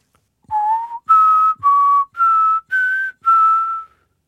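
Six clear, sustained whistled tones in a steady sequence, each about half a second long with short gaps, pitch shifting slightly between notes, loud with no talking, whistled by an old man to unlock a heavy hatch leading to the roof.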